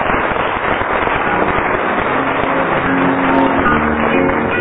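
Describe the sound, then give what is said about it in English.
A crowd applauds steadily for a newly arrived lady scorer, a dense, loud wash of many hands clapping that fills the whole moment without letting up, with no voices over it. “Give her an actual round of applause.”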